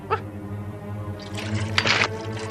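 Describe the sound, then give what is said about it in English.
Water gushes and splashes into a coffee pot for about a second, a short burst of rushing liquid that rises and fades, over a low steady hum. “Take the coffee pot down to the lake and fill it with water.”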